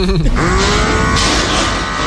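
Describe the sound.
A small blackhead vacuum device whirs loudly and steadily for about two seconds, a dense buzzing drone with a thin, high whine running through it, and a brief murmur of voice at the start.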